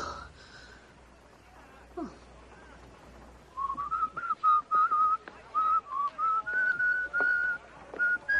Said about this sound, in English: Whenever I feel afraid, I whistle a happy tune.